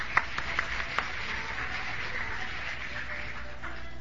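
Steady applause from a crowd, a dense wash of clapping that holds at an even level for the whole stretch, with a few sharper individual claps standing out near the start. No one speaks.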